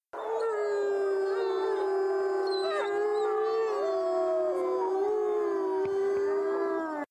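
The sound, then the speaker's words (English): Far away in the night, a wolf howls in one long, sustained, wavering note lasting several seconds, clear and steady, with a second higher voice briefly rising alongside it midway. No one speaks. “Sometimes, far away in the night, a wolf howled.”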